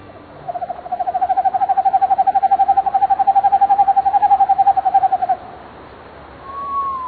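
An owl gives a long, rapid trill of evenly spaced hoots, a steady mellow tremolo lasting about five seconds, clear against quiet outdoor background, with a faint rising call afterward.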